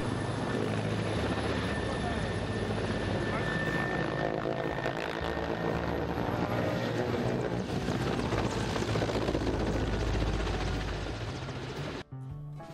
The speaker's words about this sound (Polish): Coś dużo mamy śmigłowców w tym odcinku, jednak zobaczcie na pilota tego rosyjskiego śmigłowca. Naprawdę wielki szacun za jego umiejętności.